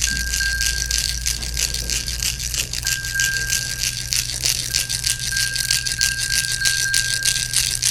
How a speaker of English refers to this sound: Now, as you sit there and sense the ones that are with you, I'd like you to find in your hand the rattle that was given to you, maybe even the bell, but the rattle.